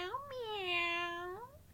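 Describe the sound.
A single drawn-out meow, voiced by a person imitating a cat, fairly loud, rising at the start, holding steady, then sliding down as it fades.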